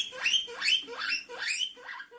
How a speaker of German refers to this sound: Meerschweinchen? Ja. Was war das? Meerschweinchen. Ah, Meerschweinchen.